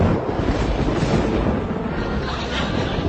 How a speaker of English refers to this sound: It's a stormy morning in the seacoast town of Marblehead, Massachusetts.